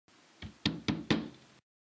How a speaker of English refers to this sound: She must be out. The door's locked. I'll knock again if you don't mind. She may be asleep.